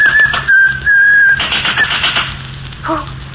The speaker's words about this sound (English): Who, me? You please, miss, no whistling in the hospital. Yes, ma'am.